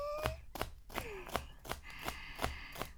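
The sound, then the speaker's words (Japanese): A knife chops crisp celery stems on a cutting board in a steady, even rhythm, about eight sharp thuds with a crunchy snap, no voices. “筋に包丁を入れて、端からトントントン。”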